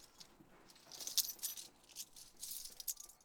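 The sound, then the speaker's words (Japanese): Keys jangling in a series of bright metallic clinks and rattles, fairly quiet, coming in irregular bursts over a few seconds with no voices. “今日は鍵ある？”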